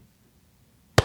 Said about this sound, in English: I'm going to give you a slow clap. A slow, sarcastic, loud clap.